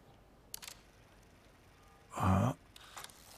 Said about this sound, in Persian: این فیلم ها خیلی گرونن، درسته؟ آره همینطوره، ولی کاراگاه جوری طراحیش کرده که هر 4 ثانیه یه عکس بگیره. اینطوری تمام روزو میتونی فقط با یه حلقه فیلم ضبط کنی.